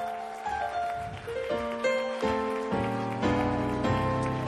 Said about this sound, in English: Praise God. Why don't you clap your hands for the Word of God?